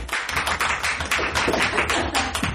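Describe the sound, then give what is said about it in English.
A crowd applauds steadily to show they liked the 60th anniversary specials, dense overlapping hand claps forming a continuous, fairly loud patter that holds at an even level for a few seconds with no voices over it. “All right, by applause, how many of you liked the 60th anniversary specials?”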